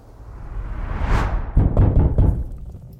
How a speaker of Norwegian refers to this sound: Det er noen som banker, mester. Det er noen som banker. Skal jeg åpne?